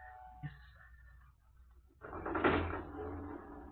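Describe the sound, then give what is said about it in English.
A lift door slides shut with a soft clatter, then a steady mechanical rumble and whir takes over as the lift starts moving, fairly loud. “Oh, don't announce us, please. We will work the lift ourselves. Get in, gentlemen.”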